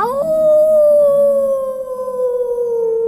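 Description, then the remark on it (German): A person dressed as a wolf in a heavy grey coat and a scarf imitates a wolf howl: one long, loud, steady vocal tone that glides up at the start, then slowly sinks in pitch over about three seconds. “Du bist ein Wolf.”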